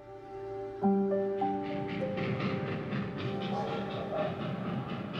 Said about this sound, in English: Forty-four-year-old Jane Toppin could hear the train whistle from her second-story window.